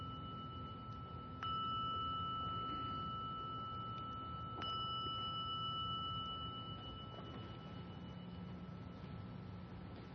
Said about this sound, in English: Sensing that when you hear the sounding of the gong, that you can bring this relaxed attentiveness into a continued listening.